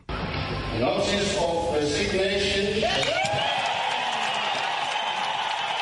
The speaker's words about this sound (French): Cris de joie et applaudissements au Parlement zimbabwéen, les députés n'ont certainement pas caché leurs sentiments